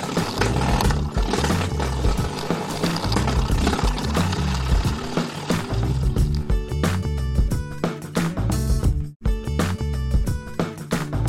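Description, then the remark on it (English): A cat playing with a doorstop flicks its spring over and over, making loud, continuous buzzing twangs with a rattly, motor-like drone, broken by one brief pause before the vibrating resumes. “Nope, it's a cat playing with a doorstop.”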